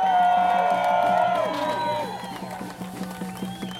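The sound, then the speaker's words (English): A crowd cheers and whoops loudly for the tenants of 1049 Market, artists fighting their eviction, voices overlapping in a dense, sustained roar that gradually fades, with scattered claps and shouts continuing as it dies down. “So let's give a cheer for the tenants at 1049 Market.”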